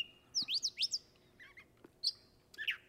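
A gray catbird sings a long, rambling run of squeaky, whistled and slurred notes in quick, uneven bursts, with occasional meow calls, clear against a quiet background, with no one talking.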